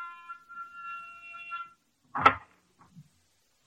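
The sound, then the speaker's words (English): A door buzzer pushed at a swank apartment sounds one steady, reedy electric buzz lasting under two seconds, followed after a pause by a sharp clunk and a few faint soft sounds. “Even the buzzer I pushed in the swank layout looked solid gold.”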